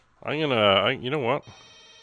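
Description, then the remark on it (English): A telephone rings loudly: two bright, warbling electronic trills in quick succession, with no one talking over them, then a faint hum. “That sounds like a phone ringing, doesn't it?”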